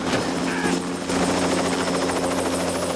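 A helicopter hovers close overhead, its rotor churning out a loud, steady throbbing drone with a high engine whine that holds constant for the whole stretch.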